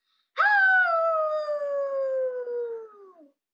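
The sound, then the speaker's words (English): A voice imitates a wolf howl: one long, sustained cry lasting about three seconds, starting strong and slowly gliding downward in pitch before trailing off, with no other sounds. “wolves don't roar, they howl.”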